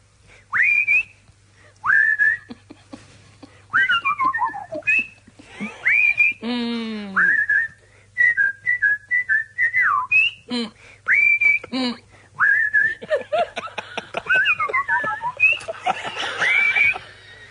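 A melodic whistled tune carries on alone for the whole stretch, bright sustained notes with slides and quick warbles, phrased like a song over a faint steady low hum.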